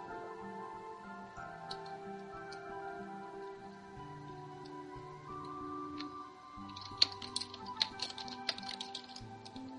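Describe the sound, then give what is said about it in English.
Keyboard typing clicks away in the background over soft, sustained instrumental chords, sparse at first and then a quick burst of irregular taps toward the end. “Someone's typing in the background.”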